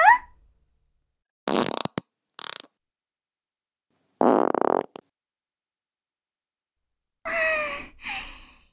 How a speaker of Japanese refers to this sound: ほーら、お客さん、金魚鉢いっぱいに充満したおならで、思う存分泳いでください。あれあれ、どうしたんですか？そんなにのたうち回って。おなら、足りませんか？じゃあ、はーい、おかわりをどうぞ。